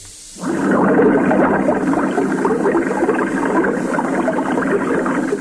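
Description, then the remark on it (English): A steady rush of flowing water starts abruptly after a brief quiet moment, then holds at an even, fairly loud level with a dense churning texture and no voices. “Well, isn't that a current, flow of water? That's what it is, yes.”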